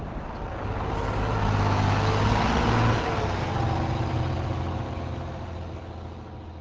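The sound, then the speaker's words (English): A steady, low rumbling engine of a basketball team's bus drones continuously as the bus heads north up Interstate 90 on a four-hour ride to the next game against the La Crosse Bobcats, with a broad hum that swells slightly midway and then settles, with no voices present. “The rest of the team gets back on the bus and heads north, up Interstate 90, a 4-hour ride to their next game against the La Crosse Bobcats.”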